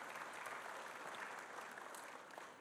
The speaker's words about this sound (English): You can clap now. You can clap.